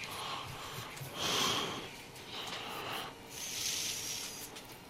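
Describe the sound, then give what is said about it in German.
Someone on a train sniffles and snorts through their nose several times in a row, wet, breathy bursts repeating over a steady background hum, with no talking. “Oh, der soll sich endlich die Nase putzen.”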